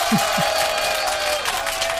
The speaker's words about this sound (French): Alors je ne sais pas pourquoi vous applaudissez ici, parce que vous trouvez que c'est quelque chose d'intéressant ou de positif. Moi, je ne suis pas là pour donner mon avis, mais je trouve qu'il n'y a pas grand-chose à applaudir.